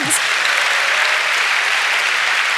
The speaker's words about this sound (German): Also, ja, dafür einmal Applaus bitte.